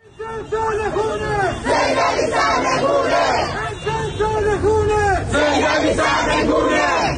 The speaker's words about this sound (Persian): در ویدیویی که به رادیو فردا ارسال شده، گروهی از معترضان در قزوین شعارهای نظیر امسال سال خونه، سید علی سرنگونه و مرگ بر خامنه‌ای سر می‌دهند.